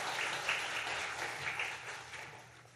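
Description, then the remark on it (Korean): A church audience applauds loudly as an act of worship, a dense, even wash of many hands clapping at once that holds for a few seconds with no voices over it. “박수로 한번 크게 경배해 주시기 바랍니다.”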